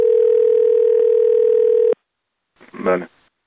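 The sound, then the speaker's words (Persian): A steady, loud telephone dial tone hums for about two seconds and cuts off abruptly, followed after a short pause by a brief burst of a voice speaking, as a number for the president's complaints office is tried. “البته ما به خاطر شما شنونده های محترم ما این شماره ها را امتحان نمودیم. نتیجه امتحان چنین بود.”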